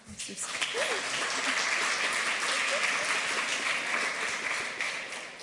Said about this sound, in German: Ich bitte euch, sie mit einem warmen Applaus zu empfangen.